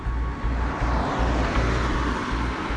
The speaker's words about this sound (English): He crosses the street to where his partner now waits behind the wheel of the car and hops into the passenger seat. They speed away into the night.